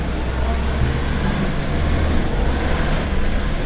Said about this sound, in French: Dans l'enville, il y a des camions poubelles qui ramassent les déchets.